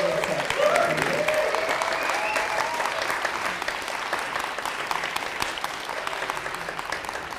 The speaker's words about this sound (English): And then secondly, I do have to say thank you obviously to all the tech team and all the backstage crew and everyone that's helped make this thing a kind of reality. So if we could give them a little round of applause.